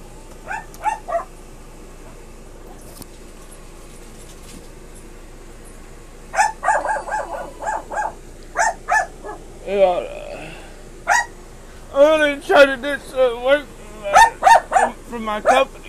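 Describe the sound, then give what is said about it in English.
A dog barks repeatedly in the background in short, sharp bursts, a couple at first, then long rapid clusters of loud, high-pitched yips and barks over a low steady hum. “Excuse the dog behind you guys”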